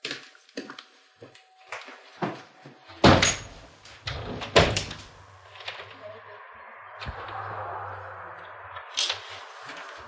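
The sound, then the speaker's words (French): A door is handled and shut, with a couple of loud thuds and rattles amid scattered small clicks and knocks, followed by a softer rustling stretch and one last bump. “Je ferme la porte parce que...”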